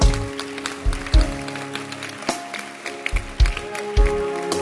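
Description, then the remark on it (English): A crowd claps hands in a dense, scattered patter, with heavy rhythmic thumps about once a second and steady sustained tones of music underneath. “Use your hands to clap your hands.”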